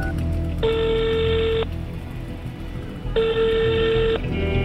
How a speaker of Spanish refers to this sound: Ha sonado el móvil en el minibús con todos alrededor.